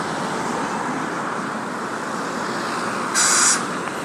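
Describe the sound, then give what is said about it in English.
A route 266 city bus rumbles along the road amid steady traffic roar, with a brief high-pitched squeal, like brakes, near the end. No one speaks. “Okay, that's the 266 heading in the opposite direction, the direction from which I just came.”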